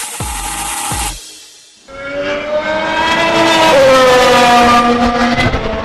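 A Formula One race car engine screams loudly, its high whine climbing steadily in pitch as it revs, preceded by a short burst of noise and a brief near-silent gap.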